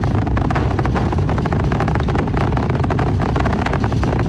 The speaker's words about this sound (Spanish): El ruido. El ruido que llegue. Los motores. Al bajar un poco la potencia, el cohete atraviesa esta zona crítica con mayor seguridad. Están aumentando su fuerza de nuevo para continuar el ascenso hacia el espacio.